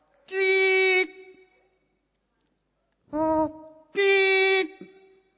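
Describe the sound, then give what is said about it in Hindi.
A performer's voice imitates a motorcycle horn with three loud, steady, buzzy honks: a long blast, a short one after a pause, then another long blast, clear with no talk, as part of a cultural programme. “Motorcycle का horn.”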